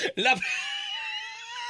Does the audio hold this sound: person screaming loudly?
yes